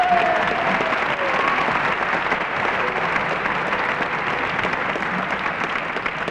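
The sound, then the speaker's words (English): A crowd at a bluegrass show claps steadily for the man who books a band, in a dense, sustained wash of applause that holds at an even loudness throughout, full, with no voices standing out. “Let's give him a nice hand of applause.”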